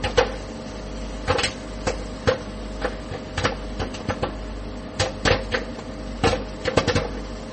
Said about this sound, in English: Place the popcorn bag in the center of the oven, this side down, then set time for 2 minutes on high. Then stay by the microwave and listen for the popping.